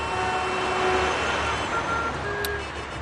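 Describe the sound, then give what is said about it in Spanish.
Heavy engines of hundreds of tractors from all over Spain rumble steadily through a street in Madrid, a dense, continuous drone with faint whining tones and a short burst of hiss at the end. No one speaks. “Centenares de tractores llegados de cualquier punto de España han conseguido entrar en Madrid dejando una imagen única.”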